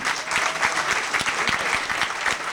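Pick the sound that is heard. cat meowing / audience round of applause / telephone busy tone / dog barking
audience round of applause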